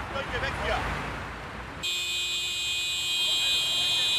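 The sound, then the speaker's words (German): Traffic rumble gives way to a loud chorus of car horns blaring together in one long, steady, overlapping tone. Drivers are stuck in a rush-hour jam shortly before 8 on the A100 motorway exit in Berlin-Tempelhof, where climate activists are blocking the pedestrian crossing. “Das Hubkonzert beginnt.”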